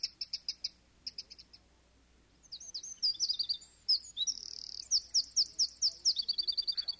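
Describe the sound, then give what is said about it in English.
A European robin (robin redbreast) sings alone outdoors: clear, high, warbling phrases with quick trills and pauses between bursts, moderately loud against a quiet background. “I've always wondered what a robin redbreast sounds like.”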